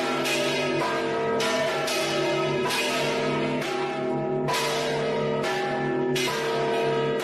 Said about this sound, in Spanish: Este sonido tradicional de las campanas en Extremadura tiene desde ahora un respaldo más fuerte.